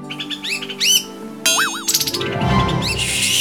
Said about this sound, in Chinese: 嘘，喵，有小鸟想抓。